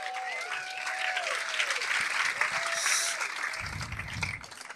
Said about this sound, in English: Oh yeah, come on up. Round of applause for the juggler.